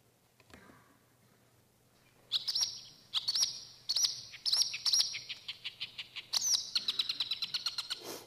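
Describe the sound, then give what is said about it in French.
A marsh warbler sings a rapid, varied song of sharp high chirps, buzzy trills and quick repeated notes, clear, with bursts of mimicked calls strung together, including those of the yellow wagtail and the linnet. “Donc la bergeronnette printanière et la linotte font partie du bagage culturel de la Rousserolle-Verderolle qui s'exprime.”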